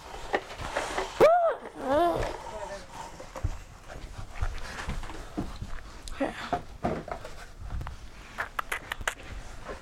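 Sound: dog panting and whimpering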